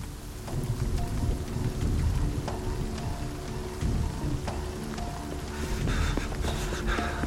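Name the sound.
rain falling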